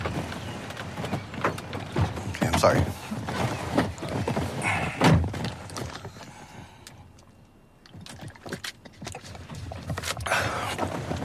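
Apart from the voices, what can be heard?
car door opening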